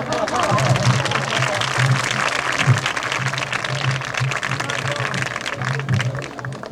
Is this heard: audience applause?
yes